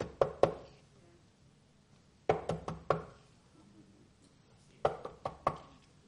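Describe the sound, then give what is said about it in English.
Three bursts of knocking on a door, each a quick group of three or four sharp raps, separated by pauses of about two seconds. The knocks are clear, with no talking. “Well, he's not coming to the door. Maybe he doesn't hear me.”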